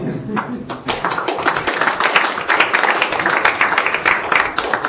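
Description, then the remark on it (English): An audience at the end of a scientific talk on magnetic fields and dynamos claps in steady, dense applause that runs fairly loud for about five seconds, with many hands overlapping into a continuous crackling patter. “Four claps.”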